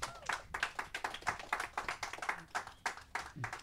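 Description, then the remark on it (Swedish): A small audience applauds to welcome guests, giving a few seconds of brisk, uneven hand clapping at a soft, steady level with no talking over it. “Okej, vi hälsar våra gäster välkomna med en stor applåd.”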